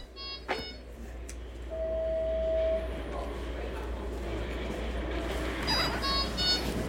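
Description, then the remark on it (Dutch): An IV infusion pump beeps: a short electronic bleep, then a sustained steady tone, and a cluster of bright repeated beeps near the end, all over a low, constant background rumble. “Dit is dus het piepgeluid”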